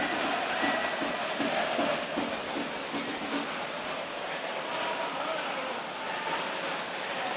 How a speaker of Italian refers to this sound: Raramente abbiamo visto tanta acqua così sullo stadio. Si sente perfino il rumore della pioggia, non so se lo potete udire in sottofondo.